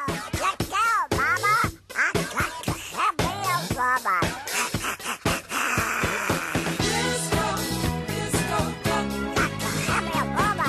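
A bouncy novelty disco track plays loudly, with a squawky, quacking duck-like voice warbling over a steady dance beat and bright backing instruments.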